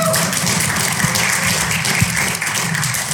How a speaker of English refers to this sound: All my fathers, raise a hand. Say Happy Father's Day. Raise a hand. Can we clap for these men?